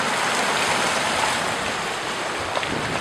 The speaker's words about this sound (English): The waves lapping up against the rugged coast of Lake Superior. The air is clear and the water reveals time-worn driftwood and rocks as the waves fall back and forth.